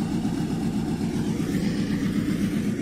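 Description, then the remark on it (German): Tractors drone steadily, a continuous low, throbbing rumble with no pauses or voices, as they drive across a sports training pitch punching hundreds of thousands of holes into the turf so air reaches the soil. “Gerade fahren Traktoren über den Trainingsplatz und stanzen hunderttausende Löcher in den Boden, damit Luft drankommt.”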